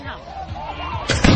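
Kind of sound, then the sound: sound effect, fireworks exploding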